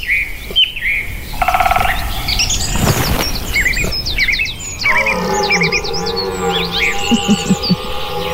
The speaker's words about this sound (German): Und wir lauschen einfach mal ganz entspannt den Geräuschen des Waldes. 20 Sekunden Ruhe.